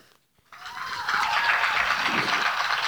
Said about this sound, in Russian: Аплодисменты, аплодисменты.